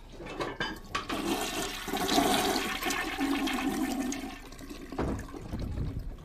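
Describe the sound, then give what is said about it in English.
An upstairs toilet flushes with a sustained rushing, gurgling whoosh of water that holds steady for several seconds, then drains and tapers off near the end. No voices are present. “Sarah stands up, zips up her pants and flushes the toilet.”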